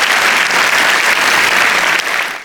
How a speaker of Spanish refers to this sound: Si Dios te habló, de un aplauso al Señor, que Él se lo merece. Amén.